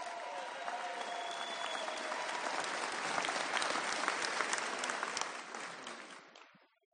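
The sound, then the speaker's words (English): A crowd at an Airstream club gathering applauds steadily for about six seconds for the Vintage Airstream Club president, a dense wash of clapping hands that swells slightly midway and then tapers off to silence. “Give him a round of applause, folks.”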